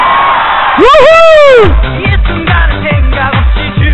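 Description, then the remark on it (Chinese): A loud, drawn-out scream rises and falls over a noisy audience screaming on request, then gives way to steady thumping beats with shouting voices mixed in, energetic. “能否再一次来点尖叫声，刺激一下黑道帝国的朋友？尖叫声！”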